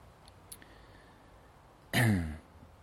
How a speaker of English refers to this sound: Excuse me for coughing in front of us.